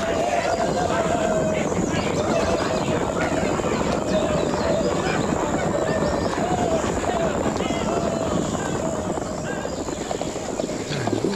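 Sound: horses galloping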